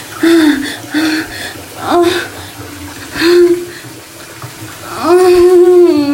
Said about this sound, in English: With the water running over both of us.